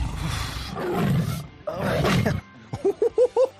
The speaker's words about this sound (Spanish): ¡Es verdad! ¡Hay un tigre en el baño!